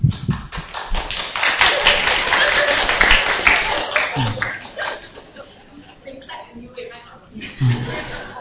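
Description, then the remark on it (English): An audience claps, a dense burst of many hands that is loud for the first few seconds and then thins out, with laughter and voices mixed in as the applause fades. “How come whoever says something, clapping the hand, I don't know.”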